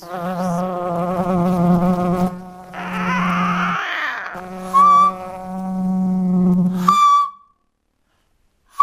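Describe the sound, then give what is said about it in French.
A voice imitates a bee's buzz, a sustained droning hum broken into a few long stretches with a brief breathy hiss in the middle, fairly loud, ending in silence. “Savez-vous bourdonner avec les abeilles, chanter avec le rossignol, ululer avec les lamas, cracoter avec le canard ou tourlouter avec l'alouette?”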